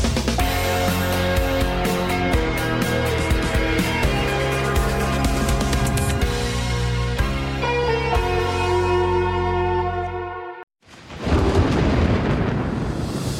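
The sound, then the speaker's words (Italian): Upbeat music plays for several seconds, cuts off abruptly, then a loud, low rolling rumble of thunder swells up on its own and fills the final moments. “Jaguar E-Pace Thunder, il tuono dopo la tempesta.”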